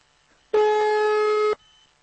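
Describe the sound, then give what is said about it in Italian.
A single loud, steady telephone ringing tone lasts about a second and then cuts off. It sounds slightly buzzy, with no voices and only quiet background noise around it. “Ma ora lasciamo squillare fino a esaurimento scorte.”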